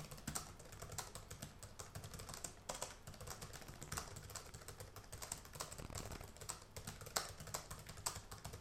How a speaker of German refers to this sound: Ja, jetzt habe ich gerade aufgehört zu tippen. Ja, dann tu noch so, für einen Ton wenigstens. Warte, ich fange mal an zu tippen.